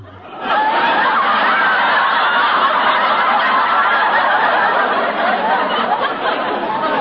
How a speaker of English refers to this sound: What in the world is Mac doing? You have just heard the frog's version of a wolf whistle. That's one for the book.